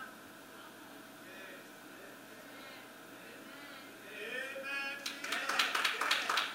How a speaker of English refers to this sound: Thank you for the 3 claps. I appreciate you.